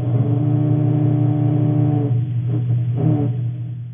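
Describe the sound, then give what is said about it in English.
A low, steady growl from a grey snapper larva, a continuous buzzing drone with strong harmonic bands that grows rougher and pulses midway before fading slightly. No talking. “And this is a growl.”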